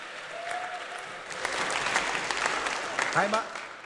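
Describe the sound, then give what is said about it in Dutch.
An audience breaks into applause for a volunteer who signed up for the lighting, a steady wash of many hands clapping that swells after a moment and keeps going, with a voice briefly audible over the clapping near the end. “Applaus voor die vrijwilliger.”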